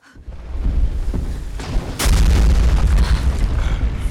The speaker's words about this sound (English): Tigress stands in a clearing beneath a red sky. Her tail instinctively twitches. Then Boar smashes through the forest and stomps towards her.